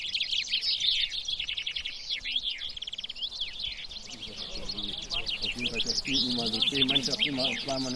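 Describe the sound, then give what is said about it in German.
Several finches sing at once in dense, overlapping bursts of bright chirping song without pause during a competitive finch singing contest, where each bird's song strikes are counted, while a person's voice talks beneath the birds during the second half. “Das ist das Kampfsingen. Da singen die eine halbe Stunde um die Wette.”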